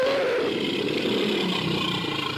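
A tiger's deep, rumbling roar fills a couple of seconds, loud, with a steady growling texture and no voices.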